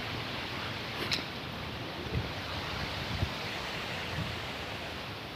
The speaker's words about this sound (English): I'm gonna walk under a cottonwood tree. You got the wind blowing, you can probably hear it through the trees. All the little leaves rustling together.